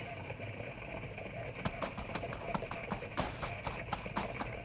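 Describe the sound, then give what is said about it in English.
A pack mule loaded with a tent sets off to join a wagon caravan, its hooves clip-clopping in a steady walking rhythm, beginning after a brief pause and continuing over a constant hiss of background noise. “After all, I never packed a mule before.”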